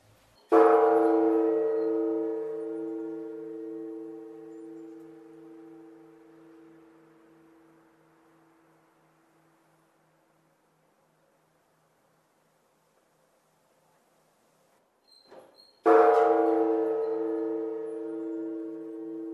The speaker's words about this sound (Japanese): 次に JR の西宮駅の北側にあります西福町西福寺さんの鐘の音をお聞きいただきます。